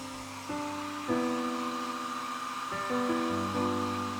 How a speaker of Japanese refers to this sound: ああ、お兄ちゃんの高いドライヤーだ。やっぱり就職したらちょっぴり奮発できちゃうもんね。はあ、風のブワー感が全然違う。お兄ちゃん最近髪がふわふわなのはドライヤーのおかげだったんだね。